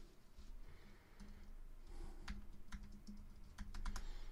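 Quick, uneven keystrokes clatter on a computer keyboard as a search is typed into a search-volume tool, a burst of closely spaced clicks with brief pauses, over a low steady hum.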